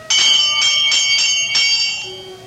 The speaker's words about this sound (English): I'm standing in front of the great door of Carrig Cleaner. and I know that everything's going to come clear at long last. I reach out and pull the bell.